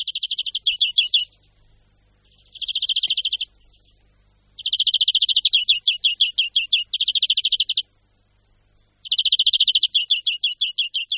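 European greenfinch calls: five bursts of rapid, high-pitched trilling, each lasting one to three seconds and separated by short silences. The bird is heard alone, with no voices.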